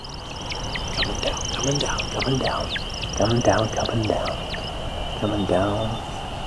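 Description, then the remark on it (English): A male bird, coming back down in a tumbling, controlled freefall after spiraling hundreds of feet up in a display flight, gives a rapid, steady series of high, thin chirps, each sweeping downward, over a constant high-pitched buzz, while low voices murmur briefly underneath. “And then at the apex of his flight, he starts to chirp.”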